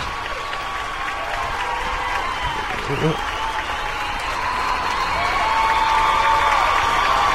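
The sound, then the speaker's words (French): Sustained applause from a large crowd, a dense steady wash of clapping with cheers and whoops rising above it, growing slightly louder toward the end. “Bravo, bah toi tu vas avoir droit à de vrais applaudissements. De la foule en délire.”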